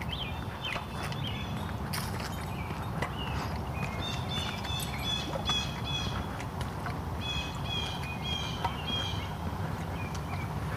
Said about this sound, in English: A lot of bird noises this morning.